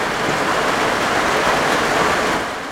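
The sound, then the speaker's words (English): Steady rainfall makes a dense, even hiss, loud and continuous with no pauses or voices, easing off slightly right at the end. “But as we try to saddle that part of the story, rain moves in.”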